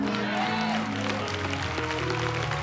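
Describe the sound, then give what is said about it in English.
An audience claps steadily for a pastor, a dense wash of many hands, with a low murmur of voices and some sustained tones beneath it. “I didn't say clap, but that's good.”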